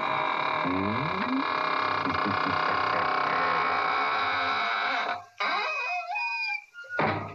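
squeaking door closing

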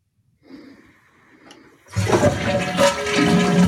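toilet flushing

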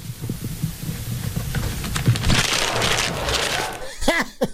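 paper being crumpled up

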